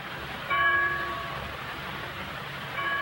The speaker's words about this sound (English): On Sunday morning, a church bell summons the faithful to worship.